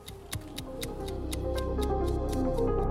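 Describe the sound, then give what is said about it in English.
A clock ticks steadily and crisply, roughly four beats a second, over a continuous soft tonal background that swells slightly louder as it goes on. “That ticking reminds me that I'm late for a very important date, which means it's time to slip down the rabbit hole and into a world of Russian timepieces.”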